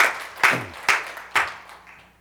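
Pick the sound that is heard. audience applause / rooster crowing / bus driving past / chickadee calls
audience applause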